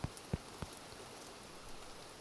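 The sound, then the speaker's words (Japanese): Light rain begins to fall with a soft, steady hiss, and a few heavier drops tap near the start. The sound is quiet throughout, with no voices. “あら、まあ降り始めましたね。”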